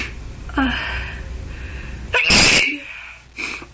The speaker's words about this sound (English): Oh, it's just sneezing.